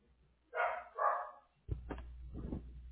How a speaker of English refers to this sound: Dog is barking. I'm sorry, what was that? Dog is barking.